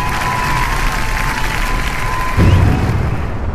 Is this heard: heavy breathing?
no